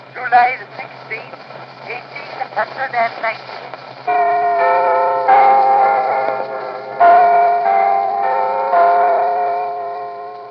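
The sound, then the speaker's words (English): The clock tower bells of Big Ben in London chime on a muffled, crackly 1890 wax recording, with about four slow, ringing strikes that overlap and hum together after a few seconds of faint, noisy rumbling. “But in terms of sounds from the environment, there's a recording from 1890 of the chiming of Big Ben in London.”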